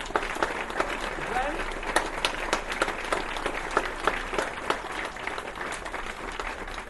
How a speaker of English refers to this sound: So we first of all just give them a massive round of applause.